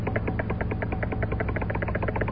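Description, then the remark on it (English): A Geiger counter with a detector rod, testing a radioactive bee, clicks rapidly and steadily, roughly a dozen sharp ticks per second, over a constant low electrical hum. No voices are heard. “listen to that counter. This bee is full of radioactivity.”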